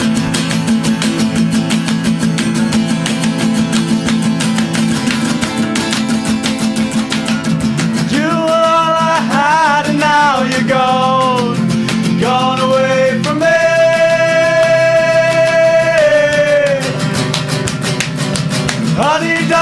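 A rock band from Brooklyn plays live on the show Snacky Tunes, loudly and steadily, with driving drums and dense distorted guitars; about halfway through, a high melodic line, likely a singer's voice, rises and falls over the full mix.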